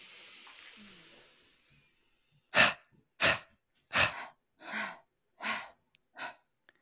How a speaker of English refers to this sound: Breathing in, squeezing those palms at the chest center, turning the palms out. Let's do that one more time. Breathing in.